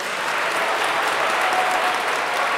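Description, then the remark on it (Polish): A crowd applauds a parish priest who will walk with them on a pilgrimage, a dense, even wash of many hands clapping at a constant loudness with no voices standing out. “Oklaski dla niego.”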